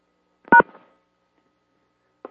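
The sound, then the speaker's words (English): A conference-call tone chimes as a caller rejoins after switching phones: one loud, brief electronic beep, then a fainter short blip almost two seconds later, with no talking. “And did somebody just come on? That was me. I was switching phones.”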